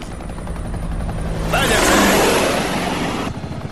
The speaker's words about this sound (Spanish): No me extraña que esté asustada con esos malditos helicópteros.